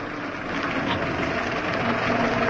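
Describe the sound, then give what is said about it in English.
A taxi's engine idles with a steady, even rumble and a faint mechanical hum running unbroken for a few seconds, with no voices. “Look, here's a taxi. We might as well grab it and get home.”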